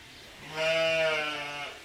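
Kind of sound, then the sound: animal, sheep bleating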